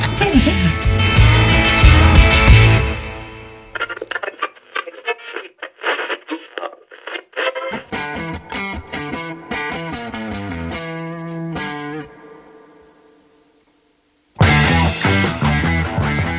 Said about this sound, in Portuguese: Já tô ligando meu modem aqui de 56k.